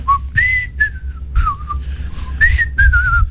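Cheerful human whistling of a bossa-style melody on a record, clear sliding pitched phrases over a steady low rhythmic backing, lively.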